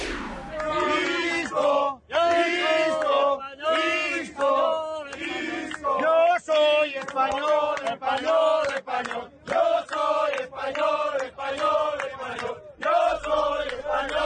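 A large crowd of Spain national team football fans chants "Yo soy español" ("I am Spanish") loudly in unison to the Kalinka folk tune before a match, their massed voices rising and falling in rhythmic phrases with brief breaks between lines.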